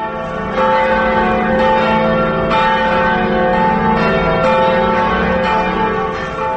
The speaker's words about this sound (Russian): Как вы находите голос часовни кафедрального собора в центре Вильнюса? Колокола из Германии, из Кёльна. Это подарок Вильнюсу.